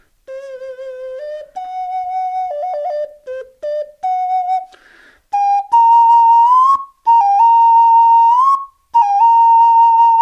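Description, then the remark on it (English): A small, round, palm-sized, face-shaped whistle worn on a cord plays a simple melody, with clear sustained notes stepping up and down in pitch and brief pauses between phrases, no talking. “And it comes on a cord, so you can wear it, and the face shows, and then you pick it up to play it. And can you whistle a little?”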